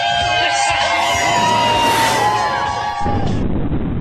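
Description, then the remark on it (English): An outdoor crowd in Manhattan cheers and whoops loudly on a beautiful early fall morning, Tuesday 11 September 2001, around 8:30. It is a dense wash of many voices with shrill yells rising above, sustained for several seconds before easing slightly near the end. “And we've got a nice crowd on a beautiful early fall morning here in Manhattan.”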